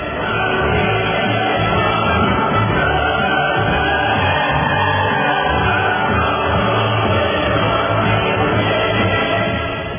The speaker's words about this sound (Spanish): Vamos a leer unos fragmentos y le vamos a poner los aplausos al principio y al final para motivarnos. Así que ahorita pongámosle ahí el himno de la alegría y los aplausos exactamente.